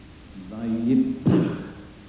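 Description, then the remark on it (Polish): A voice sounds briefly, then lets out a sharp puff like a hard P, followed by a breathy exhale that trails off and fades over about half a second. “Najpierw jest eksplozja litery P. I potem jest długi, kontynuujący się oddech.”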